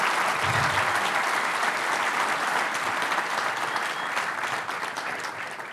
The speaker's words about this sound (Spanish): por eso un fuerte aplauso a Jorge por todo el trabajo que ha hecho liderando esto